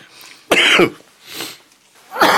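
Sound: coughing fit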